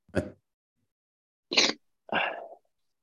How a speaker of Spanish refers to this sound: No, es que estoy tosiendo.